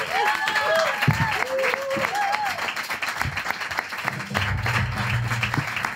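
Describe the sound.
An audience claps steadily for about six seconds, with high whoops and whistles rising over the applause and a voice calling out near the end.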